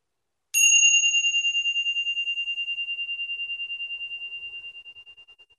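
A single gong is struck once during a meditation practice, ringing out with a bright metallic tone that pulses gently as it slowly fades toward silence over several seconds, with no voices.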